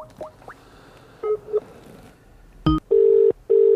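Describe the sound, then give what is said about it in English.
A few short touch-tone beeps of a phone being dialed for a call from the Indie Live Radio show, then two long, loud steady ringback tones with a brief gap between them, clear with no voices. “Here go goes, going for the ring.”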